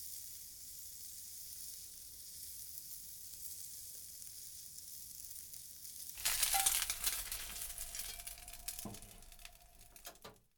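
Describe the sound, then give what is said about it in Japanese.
Steady frying hiss for several seconds, then food hits the hot pan and the sizzle jumps to a loud, crackling roar, with scraping stir strokes as pork belly, chives and egg are stir-fried. “豚バラとニラのスタミナ卵炒め。”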